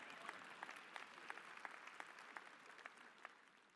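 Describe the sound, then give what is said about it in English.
An audience claps steadily, a dense wash of many hands with sharper individual claps popping out every so often. The applause is fairly soft and continues evenly throughout without any talking. “Let's either clap or not clap.”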